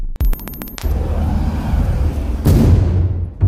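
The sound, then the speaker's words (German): A homemade explosive device detonates as an attacker tries to blast open a synagogue door. A cluster of sharp cracks gives way to a heavy, sustained low rumble, with a second burst of noise partway through before it fades. “Das ist die Explosion, die Max Priworotsky und seine Gemeinde im Innern hören.”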